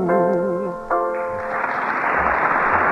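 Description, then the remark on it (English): A held, wavering sung note fades out, then an audience bursts into loud, dense applause for an amateur contest performance that swells and continues steadily to the end. “And now, while I consult our applause machine for the winners, ladies and gentlemen,”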